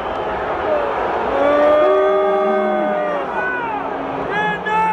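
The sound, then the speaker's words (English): A large crowd booing at the Houston Texans versus New England Patriots game in Foxborough, a loud, continuous wash of sustained, overlapping voices, the drawn-out jeers rising and falling in pitch throughout, with no clear spoken words. “things President Trump said in Alabama on Friday, all of which seemingly led to a lot of outrage and protest over the weekend, including the Houston Texans New England Patriots game in Foxborough, where we had some booing.”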